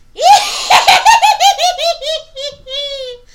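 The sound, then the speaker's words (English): A voice imitates a witch's cackle: a loud, high-pitched run of rapid, quavering laugh bursts that slowly descend and stretch out over about three seconds. “I actually do a really sweet witch's cackle, but it is so loud.”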